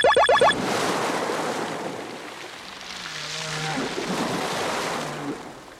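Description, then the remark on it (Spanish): Ocean waves roll and wash continuously in broad, swelling surges of surf by the sea, loud, after a brief cluster of rising chime-like tones at the start. “Estamos aquí, al lado del mar.”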